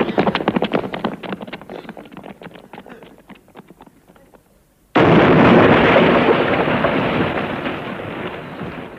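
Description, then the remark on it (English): A loud bomb explosion bursts in suddenly after a fading stretch of crackling rumble, then roars on as a sustained blast of noise that slowly trails off. “And then the big explosion”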